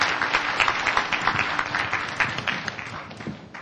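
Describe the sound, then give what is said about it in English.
An audience applauds to thank the speakers, with dense overlapping claps forming a continuous crackling wash of sound that holds fairly even for several seconds before easing slightly. “Let's give our speakers a great round of applause and thank you.”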